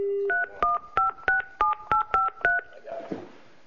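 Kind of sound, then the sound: signal or alarm, telephone number being dialed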